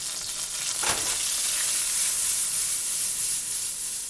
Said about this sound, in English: Gutierrez cuts up his garlic and throws it in the pan to fry.